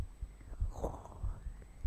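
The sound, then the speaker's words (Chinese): A soft, steady heartbeat, heard against a person's chest, thuds close up in a quiet, muffled space, several low beats in an even rhythm with a faint rustle of fabric in the middle. “只是让你听心跳，脸不可以来回蹭哦。”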